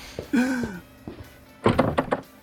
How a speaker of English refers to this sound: And here's another door locked behind us. Definitely feeling a pattern here, guys.